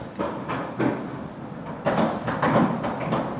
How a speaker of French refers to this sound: Vous venez faire des réparations ? Vous pouvez pas me parler ? Non ? Vous réparez une porte, là. Vous êtes du groupe FH de la maintenance ?